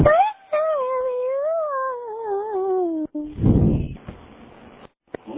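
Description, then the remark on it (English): A dog howls as if singing, in a long, wavering, sing-song tone for about three seconds, fairly loud, followed by a brief rough burst of noise and some quieter shuffling. “Sing like my dog.”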